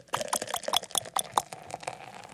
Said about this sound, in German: Das sind Eiswürfel, die in ein Glas fallen. Und jetzt schenkt jemand ein Getränk ein.